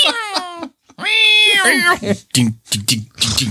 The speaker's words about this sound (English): Damn cat. Keep drinking my beers. Get out of my beer.